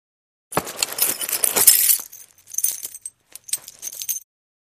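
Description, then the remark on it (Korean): Metallic jingling and clinking of a bundle of gold coins being pulled out of a safe, in a busy two-second burst followed by two shorter rattles, fairly loud with no voices. “사냥꾼이 서류를 다 작성하자 안나는 금고에서 동전 꾸러미를 끄집어냈다.”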